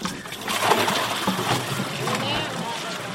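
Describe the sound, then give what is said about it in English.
Water splashes and sloshes steadily from the tank of a nearly empty water truck in Ayanavaram, India, during a heat wave, a continuous spatter, with faint voices chattering in the background. “Back in Ayanavaram, the water truck's almost empty for the day.”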